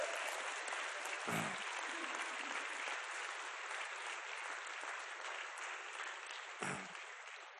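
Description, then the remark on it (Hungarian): An audience gives the performers another round of applause, clapping steadily for several seconds: a dense, even wash of many hands that fades slightly toward the end, with a couple of brief low thumps and no voices. “de milyen ügyesek voltak, adjunk nekik még egy tapsot, nem csak annyira jók voltak.”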